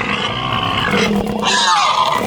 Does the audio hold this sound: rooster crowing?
no